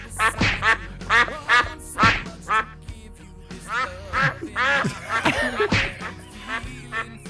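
A goose honks again and again at close range, loud, harsh nasal calls coming in quick irregular bursts with almost no pause between them.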